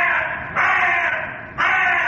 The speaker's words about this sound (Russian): Ворона.